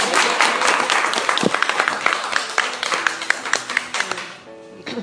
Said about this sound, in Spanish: ¡Hala! ¡Aplaudir!